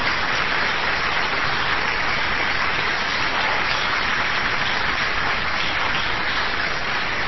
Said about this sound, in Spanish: Así que hoy hemos invitado a Karina Biorlegui. Vamos a aplaudir a Karina.